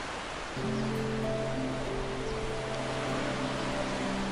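A steady wash of water from the Thames River in London begins abruptly at the waterside and continues evenly, with low sustained droning tones layered beneath it; no one speaks.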